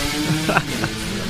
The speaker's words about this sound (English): That's very France, that, isn't it? A kid on a moped revving past, spoiling your eloquent explanation of the O-ring.